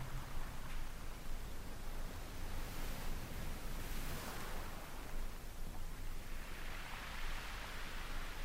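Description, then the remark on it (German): Steady rushing wind mixed with ocean surf fills the whole stretch, a dense hiss that swells and eases gently as waves roll in. No voices. “Wind und Wellen treiben ihr Spiel mit dieser Musik.”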